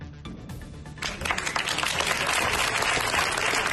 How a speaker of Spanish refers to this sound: Esa ovación cerrada de miles de personas ha acompañado el féretro de José Antonio Reyes